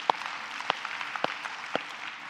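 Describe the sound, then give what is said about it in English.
A few scattered hand claps from an audience, four sharp separate smacks spaced roughly half a second apart over a faint room hiss, with no talking. “Now, I can't, yeah, you could clap for that.”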